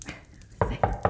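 Three firm, evenly spaced, sharp knocks on a door, following a brief quiet moment.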